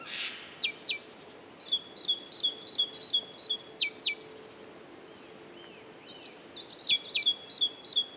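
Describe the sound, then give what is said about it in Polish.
Great tits call in a flock: high, thin chirps and quick runs of repeated notes come in bursts, some overlapping, against a quiet outdoor background with a short lull midway. “Spacerując po lesie czy parku, na pewno będą to stadka sikor. Oczywiście bogatek.”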